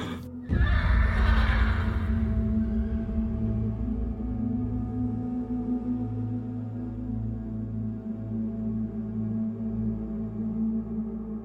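A horse whinnies loudly near the start, a short bright cry, followed by a steady low rumbling drone that continues to the end with no voices.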